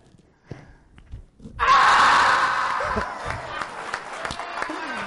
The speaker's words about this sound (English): hips, and then you break through like that. You got to scream when you do it like that.